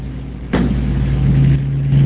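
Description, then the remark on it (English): A gravitational orbit's waveform rendered as sound, starting at an inclination angle of 20 degrees and a radius of 4m, with masses rescaled: a loud, low, buzzing synthetic drone with layered harmonics, kicking in with a sharp burst about half a second in, then holding steady with slight wavering. “so what I'm going to show you is exactly this waveform turned into a sound.”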